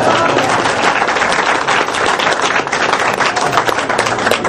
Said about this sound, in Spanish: Y aplaudieron.